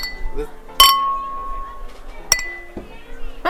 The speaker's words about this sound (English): It sounds like a piece of metal like hitting the ground or something.